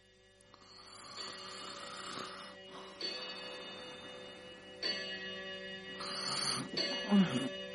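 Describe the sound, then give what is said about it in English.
A clock strikes eleven o'clock with a series of resonant chimes, each ringing out and overlapping as it slowly decays, with faint ticking beneath and no voices. “Oh, 11 o'clock.”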